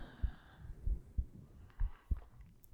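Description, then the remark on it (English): A muffled heartbeat thumps steadily in deep, soft lub-dub pairs, low and bassy, with a faint airy hiss of breathing in the background and no talking. “Just focus on my breathing and my heartbeat.”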